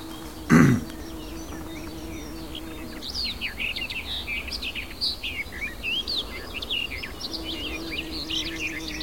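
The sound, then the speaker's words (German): A songbird delivers a long, varied stream of quick chirps, trills and whistles, weaving in phrases that mimic a blackbird, over a soft outdoor hum, after a brief thump at the start. “Und auch sie streut Imitationen mit rein. Man klingt so, es klingt so ein bisschen die Amsel raus.”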